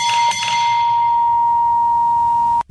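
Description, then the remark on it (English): A gas station driveway bell, rung when a car drives over the hose, dings twice in quick succession, then a bright, steady ring hangs on for a couple of seconds before cutting off abruptly. It is loud, with no voices. “You don't see these anymore, but gas stations used to have this like hose. Oh, you drive over and make I've the bell ring.”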